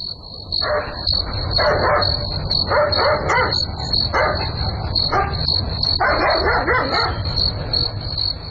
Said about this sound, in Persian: معلوم نمیشه، نمیفهم که سگ چرا میجفه. حتما کرام گپ خو است.